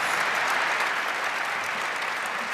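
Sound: audience applause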